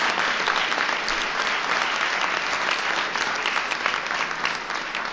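A crowd claps steadily for about five seconds, a dense, even wash of many hands with no pauses or cheering, loud throughout and fading slightly at the end.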